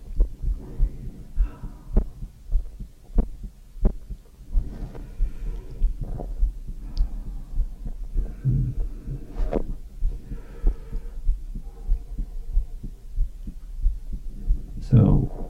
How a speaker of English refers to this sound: There's my stomach right on cue, making a digestive noise.